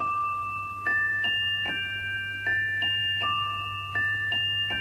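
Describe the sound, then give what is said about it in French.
A pocket watch chime from a Sergio Leone film plays a slow, tinkling music-box melody of bright sustained notes, each step marked by a soft click, over a steady low hum with no voices. “La montre Gousset et son carillon, vous vous souvenez ?”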